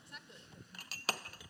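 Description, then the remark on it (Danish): A couple of light ceramic clinks, a teacup tapping against its saucer as tea is handed to a woman called up front, with a bright ringing tone, the sharpest near the end, over a faint background murmur. “jeg ved, du skal have te, så det får du her.”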